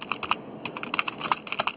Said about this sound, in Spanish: Aló. Sí, como que estaba tecleando